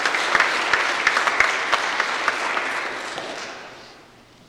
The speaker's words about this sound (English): Let's give Walter a round of applause as he comes forward to share some words.